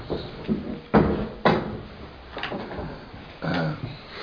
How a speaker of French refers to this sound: Les portes se sont ouvertes.